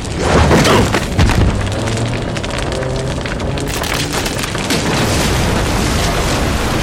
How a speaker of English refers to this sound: Just as Ronald exploded with deafening force, the game documents, the partition he used, all went up instantly. The incredible power of the energies released slammed the table back against me, and me in turn against the far wall.